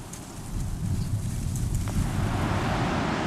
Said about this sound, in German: Am nächsten Morgen Windstärke 8 am Kolberger Strand und 20 cm Neuschnee.